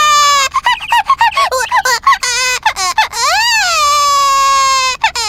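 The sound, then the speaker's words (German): A high, squeaky baby-like voice chirps in quick bursts, then stretches into a long wavering wail, loud with no talking, like a cartoon infant squeaking and crying: the little Olchi baby of the Olchi family. “Und das kleine Olchi-Baby.”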